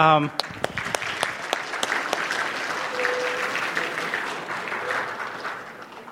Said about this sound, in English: So I know you're all too humble to clap for yourself, but can you clap for the person next to you?